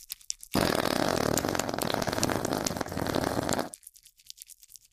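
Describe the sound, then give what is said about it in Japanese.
A long, loud, sputtering fart lasting around three seconds, with a rough, buzzy texture that stops abruptly into near silence. “熱いおなら。”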